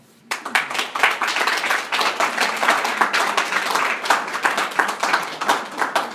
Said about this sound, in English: Appreciate y'all clapping beforehand. I don't know how good it's going to be, but thanks in advance.